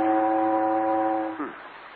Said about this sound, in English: I hear steamboat whistle. Maybe we should take boat to America.